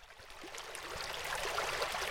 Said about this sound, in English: So the sound of the water that you're hearing is actually the sound of the Evenload speeding up. So the velocity of the river is increasing,